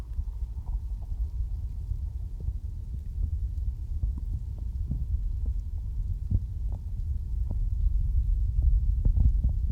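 heartbeat

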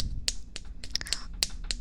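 hand slapping thigh

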